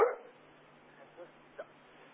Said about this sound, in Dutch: En, ogenblik hoor, ik word gestoord door de hond.